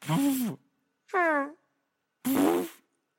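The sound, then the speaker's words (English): Three mouth-made fart noises imitated by a voice, each about half a second long with short pauses between, buzzy with wobbling pitch, made to match foods such as Gouda cheese and soft tacos from Taco Bell. “Tell me a food item and I'll do the fart noise that associates with it.”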